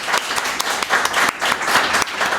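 An audience applauds a wine princess dressed in pink, a dense wash of many hands clapping at a fairly loud, even level with a few sharper individual claps standing out throughout.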